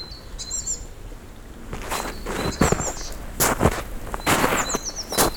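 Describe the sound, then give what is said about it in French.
Scattered bird chirps and short trills ring out outdoors in a mountain forest at nearly 1300 meters altitude, while footsteps crunch and rustle in uneven bursts across the ground. “Près de 1300 mètres d'altitude, encore des arbres, des oiseaux, des sources.”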